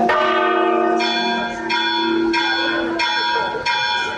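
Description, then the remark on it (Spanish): The bells of the Cathedral of Mondoñedo ring one by one at about 1:07 in the afternoon, each new strike entering roughly every second or so over the lingering hum of the previous ones, loud and resonant with long sustained tones. “Primero sonaban, como nos había dicho el campanero, de una en una.”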